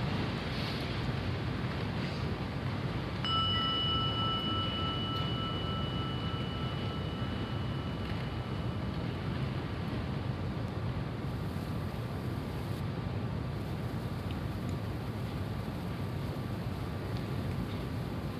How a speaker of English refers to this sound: Just close your eyes for a moment and just let the sound of the gong be an invitation right back here again.